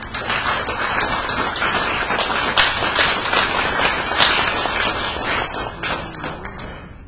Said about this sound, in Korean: 우리 박수 환영합시다.